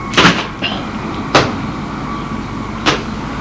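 A grated door behind the stairs, leading to the cellars, is opened with a few sharp clunks and rattles, three distinct knocks spaced about a second apart over a steady low hum, with no voices.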